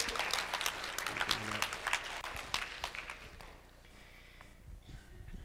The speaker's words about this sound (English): Round of applause for my sister. We clap for her.